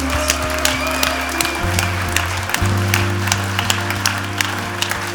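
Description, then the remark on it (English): A crowd applauds loudly and steadily for several seconds, irregular claps crackling over low sustained keyboard or organ chords that shift pitch midway. “Est-ce qu'on peut les applaudir bien fort, bien fort?”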